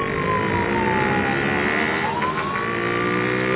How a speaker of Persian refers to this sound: صدای آژیر ماشین پلیس هر لحظه نزدیکتر میشد